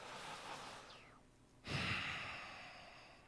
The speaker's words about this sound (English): Then there's a fire breath. That's breathing in through your mouth and then, like a dragon, breathing out through your nose. So let's do that together.